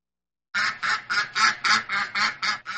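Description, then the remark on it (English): A duck quacks rapidly about eight times in a steady, even rhythm, loud, with harsh nasal calls following a brief silence at the start. “Quack, quack, says the duck.”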